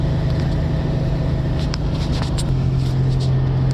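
A steady, loud engine drone with constant low hum and road rumble, heard from inside a moving truck cab at 4 a.m. while delivering auto parts, with a faint shift in pitch partway through and no talking.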